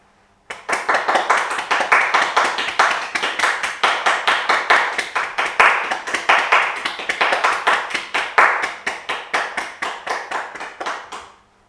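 An audience at a Sunday worship service claps their hands in thanks to healthcare workers for about eleven seconds, a steady, dense round of sharp claps at a brisk, even rhythm that starts abruptly and fades at the end.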